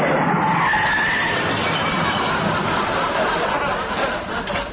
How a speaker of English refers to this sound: I suppose you've arranged for a massive, great, articulated lorry loaded with money and food and everything we need to come smashing through the front windows, have you?